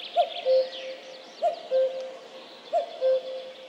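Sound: common cuckoo calling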